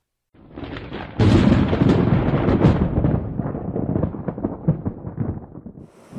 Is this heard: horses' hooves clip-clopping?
no